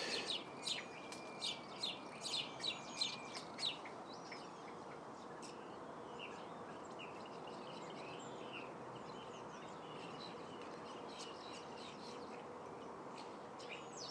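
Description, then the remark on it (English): A flock of starlings chatters and calls continuously, with sharp whistles and clicks standing out in the first few seconds before settling into a dense, busy wash of bird chatter. “Most of the sounds, in fact, virtually all the sounds you're hearing now, are coming from these starlings.”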